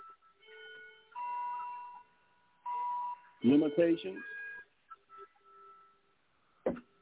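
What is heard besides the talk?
clock chime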